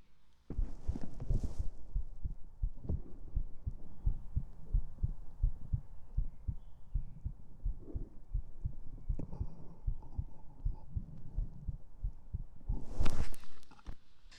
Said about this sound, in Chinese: 不然给你听一下我的心跳有没有加快。